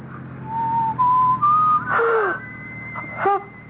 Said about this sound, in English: Were you whistling just now? Why should I be whistling?